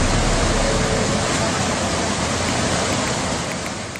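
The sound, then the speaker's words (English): Floodwater from a rainstorm pours and cascades down into Wong Tai Sin MTR station, turning it into a waterfall, with a loud, steady roar, a dense rushing wash that tapers slightly near the end, with no voices heard. “And I guess the most popular or the most viral video that everyone's looking at was that video that shows Wong Tai Sin MTR station turning into sort of a waterfall.”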